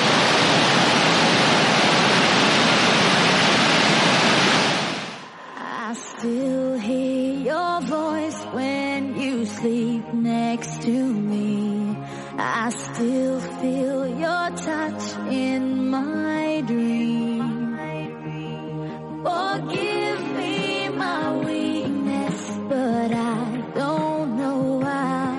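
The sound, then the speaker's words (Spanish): The Salto de Apombao waterfall, with a 105-metre drop, crashes down in a loud, steady roar of rushing water for about five seconds, then cuts off abruptly as music with singing takes over. “Y al lado hay un montón también de cascadas súper bonitas, como la del Salto de Apombao, que cae menos porque solo tiene 105 metros de caída, pero que hace un ruido al caer. Es este que estamos escuchando.”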